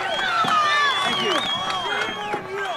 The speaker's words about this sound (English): Ryan goes on stage without Trump, and he got booed